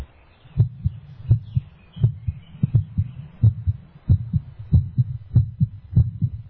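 A steady heartbeat thumps at a regular, fairly quick pace, each deep muffled beat landing clear, with a soft low hum underneath and no voices.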